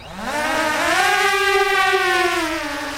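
The Ukrainian Bullet interceptor drone, a hybrid of quadcopter and plastic shell built to destroy Russian Shahed drones, takes off rising on its four propellers with a loud, buzzing motor whine that climbs steadily in pitch over the first second, then holds a sustained, harmonic-rich drone. No one speaks.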